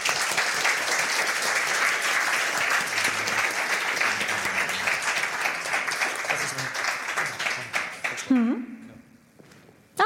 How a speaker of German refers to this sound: Und auch dieses Jahr wieder finanzielle Unterstützung von der Fachschaft Informatik. Ganz herzlichen Dank und auch da großen Applaus bitte nochmal.